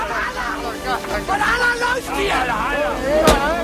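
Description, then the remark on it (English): A single sharp pistol shot, fired by an officer at a flaming mound of burning bodies, cracks out near the end, cutting briefly through a steady hubbub of many overlapping voices and crowd noise. “Then he fires his pistol at the burning bodies.”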